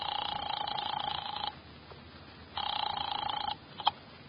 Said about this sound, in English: I drove down to the document research laboratory on Vanderbilt and got such a shock that I grabbed the office phone and dialed Wolf at once.